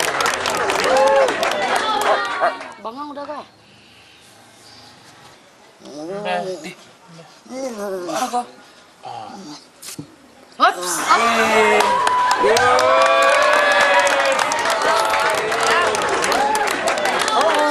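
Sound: audience applause and cheering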